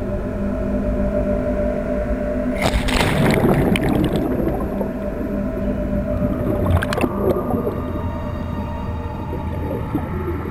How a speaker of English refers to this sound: diving inside an Antarctic iceberg